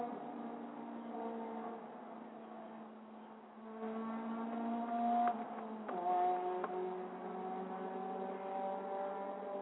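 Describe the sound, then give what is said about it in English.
A motorcycle engine drones steadily, then revs up with rising pitch and grows louder as it passes before settling into a steady hum; no one speaks. “Actually, that was a motorcycle.”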